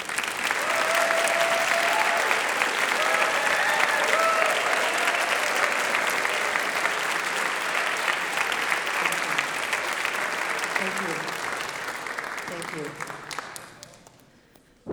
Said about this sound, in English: if you've done sound, if you've done drama, dance, visual arts, if you've been a prayer servant, if you've been a musician or a singer, or maybe the associate chaplain for worship, would you please stand and let us thank you with our applause?